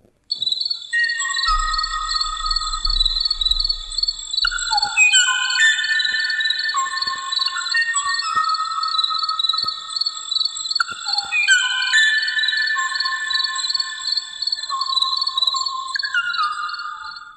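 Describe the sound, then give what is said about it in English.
A bird call of steady whistled tones stepping up and down between pitches, with thin high notes layered above, running continuously and evenly loud for about seventeen seconds with no talking. “It's a bird.”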